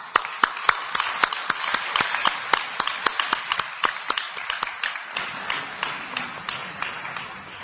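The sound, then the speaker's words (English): An audience applauds steadily for several seconds as a speaker is invited to the stage, a dense wash of clapping punctuated by sharp, distinct individual claps, easing slightly toward the end. No one speaks. “Let us now invite Kasia Andersen with a huge applause.”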